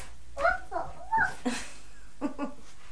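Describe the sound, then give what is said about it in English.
A young child's voice pretends to be a dog, letting out a quick run of short, high yips, then two more after a brief pause. “I'm a doggy. You're a doggy, are you?”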